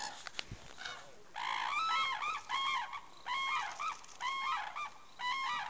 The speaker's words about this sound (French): Avoir des aigles se battre avec des grues pour du poisson, c'est pas tous les jours. Hein. Les aigles qui passent en rasant dessus et les grues qui s'écartent en criant.